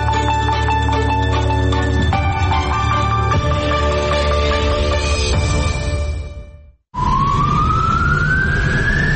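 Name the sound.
ambulance siren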